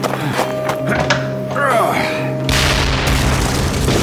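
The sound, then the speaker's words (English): A dynamite explosion erupts partway through as a loud, rough boom, then a sustained wash of rumbling noise. Voices and steady droning tones are heard before it. “The dynamite blew, the concussion sending Frank rolling on the ground.”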